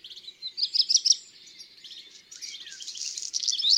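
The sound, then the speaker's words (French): A black redstart sings a high, repetitive song: a quick trilling phrase of bright chirps followed by a scratchy, crackling rattle, clear and alone with no voices. “Ça, c'est son chant typique et répétitif.”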